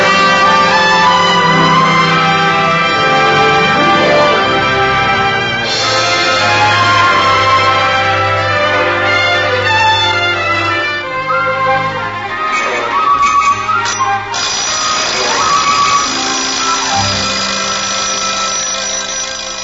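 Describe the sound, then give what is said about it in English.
An alarm clock rings loudly and without pause for the whole stretch, going off at 7:30 a.m. though set for 5:30 a.m., a dense metallic jangle layered with bright, sustained tones and no voices. “It's that silly alarm clock again, Mom. I'll turn it off.”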